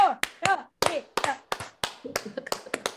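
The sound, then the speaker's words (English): A slow clap congratulating a guest on becoming a doctor: a slow, steady round of sharp hand claps, about ten crisp smacks spaced evenly, with voices chattering and laughing softly between them. “We were trying to decide where to begin and we decided we're going to begin with a slow clap”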